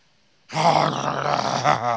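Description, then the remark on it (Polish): A person growls in imitation of a pastor growling, a single loud, rough, guttural vocal rumble that starts abruptly after a brief silence and holds steadily for about a second and a half. “Czy już warczałeś, jak pastor warczał?”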